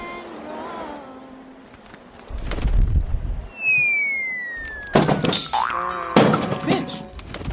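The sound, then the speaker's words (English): A cartoonish falling whistle slides steeply downward as a bird stops flapping its wings and falls, then ends in a loud crash of impact on the ground followed by a second clattering thud, with rustling commotion before the fall. “You just stopped flapping your wings and hit the ground and splat!”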